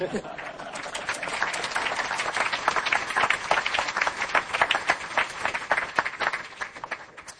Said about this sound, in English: I think a $3 billion commitment is worth two rounds of applause.